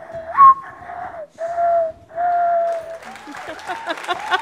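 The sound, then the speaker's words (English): During a bird game on NPR's Ask Me Another, someone whistles a mournful mourning dove imitation: a rising, swooping first note followed by three long, steady, mid-pitched coos with short gaps. A burst of audience clapping and noise follows. “Morning Dove.”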